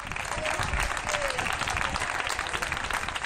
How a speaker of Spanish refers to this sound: Son las 8, las 7 en Canarias. Nosotros también aplaudimos a nuestros héroes todos los días a esta hora.